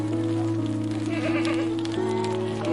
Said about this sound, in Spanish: Percibe la presencia apacible de un rebaño de ovejas, pacíficas y entregadas a pastar y abonar su entorno.